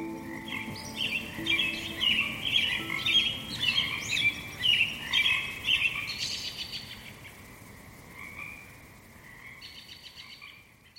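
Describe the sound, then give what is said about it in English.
A chorus of frogs calling in quick, overlapping high-pitched chirps and trills, busiest in the middle and thinning out toward the end, with a faint low hum underneath. “And if you didn't get quite enough frog action there, here's a little bit more.”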